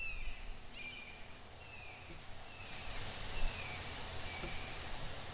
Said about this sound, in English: I'm hearing all kinds of birds in the background, and I'm glad it's a hawk and not a vulture.